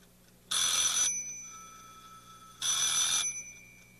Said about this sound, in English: That's not this alarm clock. Oh, it must be the telephone.